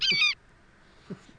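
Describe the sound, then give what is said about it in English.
A single short, loud eagle screech rings out at the very start, shrill and harmonic, then cuts off into near silence broken only by a faint low thump. “That's kind of a short eagle sound there.”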